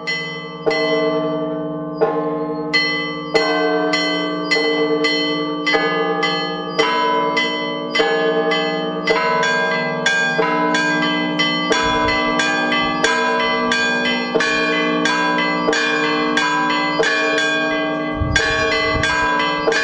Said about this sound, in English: And this is how the bells sounded in the hands of bell ringer from Moscow's St. Daniel Monastery